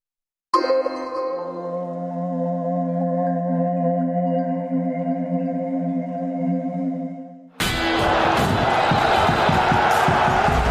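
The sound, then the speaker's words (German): A long ringing, bell-like tone sustains for several seconds, then cuts abruptly into a loud burst of crowd cheering and applause that fills the last three seconds. “Ist das ein Applaus wert gewesen?”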